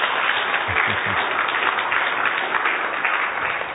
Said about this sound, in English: and I think you should give him a hand of applause for his good work.